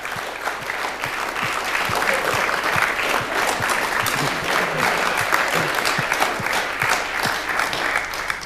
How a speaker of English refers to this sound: So everybody in the green shirt, please stand up. Stand up. And give them a warm round of applause.